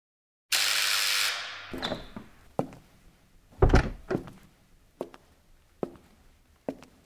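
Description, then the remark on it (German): A door slides open with a brief hiss and a thump in a dentist's waiting room, then unhurried footsteps cross the room in a steady, evenly spaced rhythm. No one speaks. “Sie sitzen beim Zahnarzt im Wartezimmer und hören, wie sich eine Frau und ein Mädchen über einen Kleidungskauf unterhalten.”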